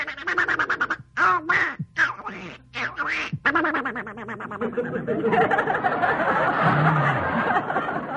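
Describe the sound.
A person imitates the raspy, sputtering quack of Donald Duck in a few loud, choppy bursts, which then blur into a longer garbled run as audience laughter swells underneath.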